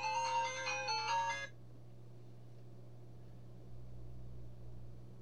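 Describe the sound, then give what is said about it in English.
A bright electronic phone ringtone for an incoming call plays a short tinkling melody for about a second and a half, then cuts off abruptly, leaving only a steady low hum. “Is this work? It is work! Let's answer this phone call.”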